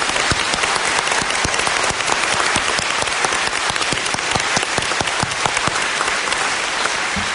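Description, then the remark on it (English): Sustained audience applause, a dense steady wash of many hands clapping at an even loudness for several seconds, with no voices standing out. “Please, a round of applause for everyone.”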